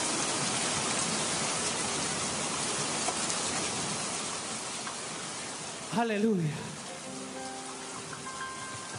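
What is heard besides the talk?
rain falling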